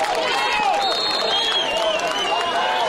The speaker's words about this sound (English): And you can hear the crowd for the Shoremen getting into this one. It is nearly a sold-out crowd here at Mustang Stadium. Very few seats available below us.